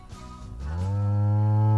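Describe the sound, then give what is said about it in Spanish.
A single loud moo from a dairy cow, starting with a rough grunt, then rising into a long, steady, low bellow that swells toward the end. No talking. “Muy bien, la vaca que da la leche, que luego transformamos en el dulce de leche.”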